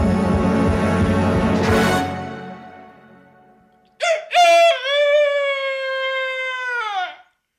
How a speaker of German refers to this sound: Oh, also ein richtiges Kikeriki muss so richtig aus einem lachenden Herzen kommen.